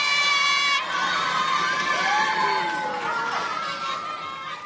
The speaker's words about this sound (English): Well, now that they've had their time to speak, we have another young, beautiful poet to the stage. Can we give a huge, huge round of applause? Big, big whoop, whoop, whoop, whoop, whoop.